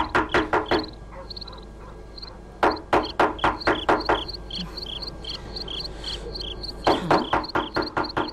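Three bursts of firm, rapid knocking on the door of the muezzin's house, separated by short pauses, while crickets chirp steadily in the background.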